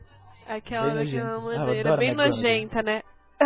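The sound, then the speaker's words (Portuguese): A voice imitates Dolores Umbridge's prim throat-clearing cough, a drawn-out voiced 'hem hem' with rising and falling pitch, heard on its own. “Ela faz aquele negócio assim. Um pigarro assim.”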